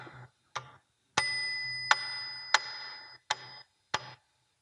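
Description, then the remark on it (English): A bell, sounding at a rate of 23 times a minute, is struck about seven times in succession, each sharp metallic hit leaving a bright ringing tone that hangs between strikes. No one speaks. “The bell is sounding 23 times a minute.”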